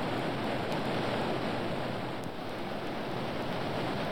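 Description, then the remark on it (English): A waterfall roars in a steady, dense rush of white noise, loud and unbroken for the whole stretch with no pauses or voices. “Listen, that roar. Is it a waterfall?”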